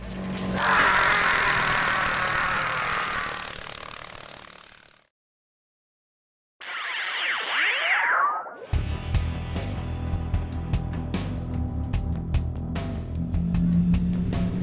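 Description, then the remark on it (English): Motorcycle engines rumble and rev, a rising roar cutting off into silence, then a short revving burst before a steady, loud idling throb continues to the end. “And the sounds of motorcycles in the background says we're back.”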